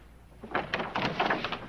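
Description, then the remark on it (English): A door opens with a cluster of clattering, rattling bursts lasting about a second, heard on its own without voices. “Please open the door.”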